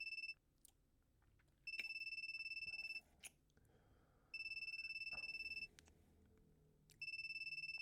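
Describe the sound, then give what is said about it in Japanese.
A phone rings in repeated electronic bursts, four rings with short pauses between, clear, with faint rustling in the gaps; the call ends unanswered. “電話切れちゃった。”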